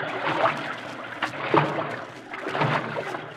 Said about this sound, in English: Now, we'll have to wade through the water, that's all. Come on.